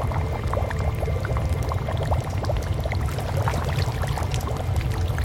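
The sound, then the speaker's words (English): Water churns and splashes steadily over a low rumble, with scattered bright drips and sloshes running through the whole stretch, as a creature with gills rises up out of the water. No voices. “And then, whatever had spoken rose from the water like bloody Jesus.”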